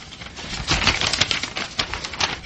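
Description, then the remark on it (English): Crisp rustling and crinkling of a sheet of paper, picked up from the floor and folded, being handled, a steady run of small crackles with no talking. “What's that on the floor? Piece of paper. Fold it up.”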